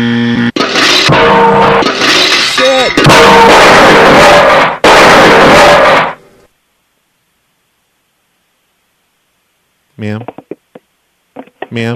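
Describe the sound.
A machine blows up in a harsh, roaring, non-fiery burst of crackling noise and grinding whine that lasts several seconds, then cuts out abruptly into silence before a person briefly exclaims.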